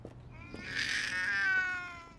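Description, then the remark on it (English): A mean-looking cat lets out one long, drawn-out meow with a whiny, wavering tone, lasting over a second. No one speaks. “The mean-looking cat sees the glow from down the street.”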